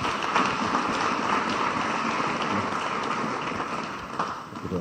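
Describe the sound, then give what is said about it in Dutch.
An audience applauds the evening's main guest in a dense, steady wash of clapping that holds for about five seconds, easing slightly toward the end, with no voices over it. “Mag een groot applaus voor ons hoofdgast van vanavond,”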